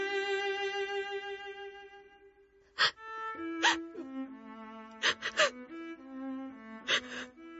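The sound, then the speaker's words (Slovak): A woman weeps, a long drawn-out wail breaking into gasping, shuddering sobs with sharp intakes of breath, her voice wavering and moaning throughout without any spoken words. “prečo plačeš?”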